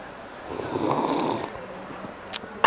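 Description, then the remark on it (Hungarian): A breathy, airy slurp of beer, recorded as beer ASMR in a park beside a shopping cart, lasting about a second, followed by a short pause and two sharp little clicks or swallows near the end. No talking. “Én úgy érzem, hogy ez nem lett még olyan jó, úgyhogy kortyolok még egyet.”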